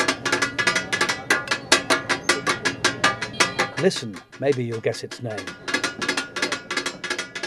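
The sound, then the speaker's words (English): Rapid, steady metallic clacking of blades chopping goat offal (kidney, liver, brains and a testicle) in butter on a giant steel pan in Lahore, making takatak, several sharp strikes per second, pausing briefly while a voice speaks, then resuming at the same brisk rhythm. “Sajid Hussein is firing up his giant steel pan. He tosses on some butter and starts chopping up a kidney, a liver”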